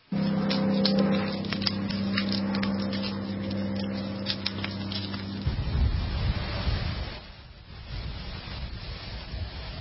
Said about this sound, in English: Yeah, that crackly sound and then the winds and, of course, the water from the fire hoses.